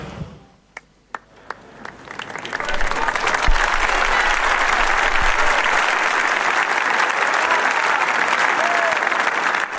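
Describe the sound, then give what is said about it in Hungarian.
A large audience breaks into applause, starting with a few scattered claps and quickly swelling into sustained, dense clapping that holds steady and fills the space, as farewell applause greeting the Pope after his Latin blessing. “Lassan visszaszokunk mi is ehhez a búcsúzáshoz, a tapshoz és a Szentatya köszöntéséhez.”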